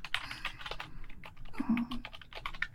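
Rapid, irregular keystrokes clatter on a computer keyboard, fairly quiet, with a brief low murmur partway through.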